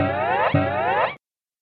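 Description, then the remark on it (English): Two quick springy cartoon boings, back to back, for a kangaroo's hop in the Twin Sisters ebook Splash Goes the Hippo, with a wobbling twangy tone that cuts off abruptly after about a second. Loud, with no voices. “Hop, goes the kangaroo.”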